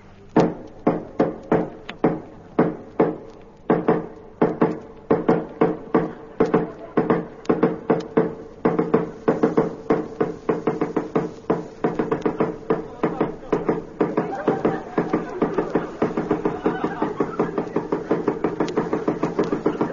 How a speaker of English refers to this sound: I knocked 6,000 times.